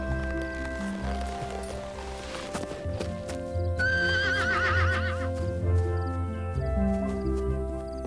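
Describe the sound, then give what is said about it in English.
A stallion gives a loud, wavering whinny, while hooves clip-clop steadily underneath with no one speaking. “got done taming a wild honeymoon stallion for you guys.”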